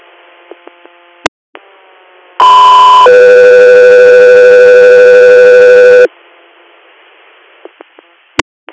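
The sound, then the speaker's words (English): A loud radio dispatch alert for Guthrie Air plays over background hiss: a short steady tone, then a longer, lower held tone, about four seconds in all, bracketed by sharp squelch clicks. “Guthrie Air, stand by for tones.”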